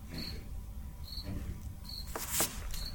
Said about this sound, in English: Any additional public comment? Crickets. I know, another crickets. I'm like, what the heck? Actual crickets.